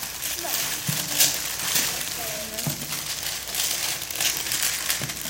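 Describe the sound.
Steady crinkling and rustling of paper being crumpled, shuffled and put into a box, with soft scattered thumps and faint voices in the background.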